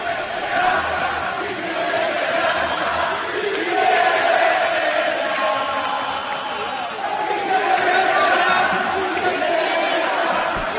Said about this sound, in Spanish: Bueno, pues la afición, bastante molesta ya con el devenir del Betis, se lanzaba ese grito: Quique, vete ya.